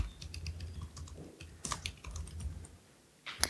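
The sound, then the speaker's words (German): Rapid, uneven clicking of keys on a computer keyboard while typing in the Emacs editor, a steady burst of typing with a brief pause near the end before a final sharp keystroke; fairly quiet, with a low hum underneath. “Okay, also in Emacs kann man tippen. Man kann ohne Modes tippen.”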